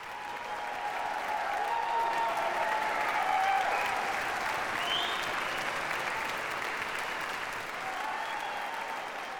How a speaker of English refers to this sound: The concluding piece of the 2018 Sunflower Music Festival in Topeka. Conductor Andres Cardenas is acknowledging the applause with the orchestra now standing before a packed house here at Washburn University's White Concert Hall.